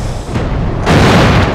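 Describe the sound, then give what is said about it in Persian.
A loud German artillery shell explosion bursts in partway through over already rumbling battle noise, its deep, roaring blast filling the space and sustaining rather than fading quickly. “پناه بگیرید، توپ برای آلمانیه.”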